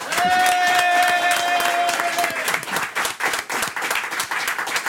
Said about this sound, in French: Applaudissez Jenny Beff et François Armanet.